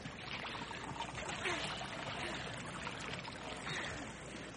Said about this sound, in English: A second time the water is being poured upon the wood and offering.